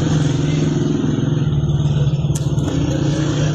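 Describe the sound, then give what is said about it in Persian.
A thick, steady roar of dozens of special-unit police motorcycles running together, loud, with a low droning hum and occasional rising revs blending into one continuous mass of engine noise, at the prison square leading to Aichi cemetery in Saqqez, Kurdistan province, Iran. “در یکی از این ویدیوها ده‌ها نیروی موتوری یگان ویژه مشاهده می‌شوند که در میدان زندان منتهی به آرامستان آیچی، محل آرامگاه مهسا امینی و شماری از معترضان کشته شده در سقز مستقر هستند.”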